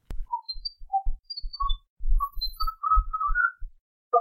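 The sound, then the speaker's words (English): Faint, wavering whistling recorded on a bridge as an EVP drifts in short, scattered bursts with a swirling quality from a phaser effect, while soft low thumps knock irregularly underneath; no one speaks. “this is simply whistling that was captured on the bridge”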